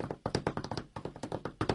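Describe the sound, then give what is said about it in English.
A man tap-dancing on a pickup owner's truck: quick, rhythmic steps, a rapid patter of sharp, fairly loud hits in uneven clusters with short pauses between, and no voices. “Yeah, I recorded a guy tap dancing.”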